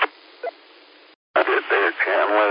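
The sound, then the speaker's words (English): A burst of steady radio hiss with a short chirp, a brief dead cut, then a narrow, tinny voice comes through a JP handheld transceiver fitted with a whip antenna, over the static. “It's a little bit of white noise, but you good and readable.”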